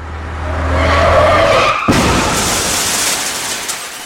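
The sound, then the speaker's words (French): Loud car tires screech and skid for almost two seconds, then an abrupt crunching impact cuts in as the car is hit by a truck whose driver had fallen asleep at the wheel, followed by a broad, noisy rumble of debris and wreckage settling. No voices. “Le lendemain, la voiture des grands-parents fut percutée par un camion dont le conducteur s'était endormi au volant.”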